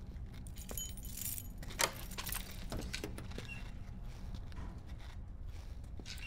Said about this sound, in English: There's keys in the door.